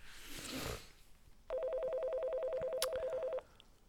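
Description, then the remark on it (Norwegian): A rapid series of short electronic beeps from a phone keypad as a number is dialed, about a dozen evenly spaced tones in quick succession, clear, following a brief rustle. “Da får jeg ta oss til nummeret.”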